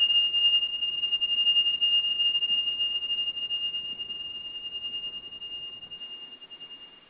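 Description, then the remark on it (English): A Tibetan meditation chime rings with one high, pure sustained tone that hangs steadily for several seconds and fades very slowly, over a soft background hiss with no voices. “They start and they end their meditations with chimes, and just listen to this.”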